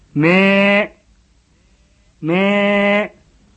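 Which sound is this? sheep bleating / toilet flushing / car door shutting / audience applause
sheep bleating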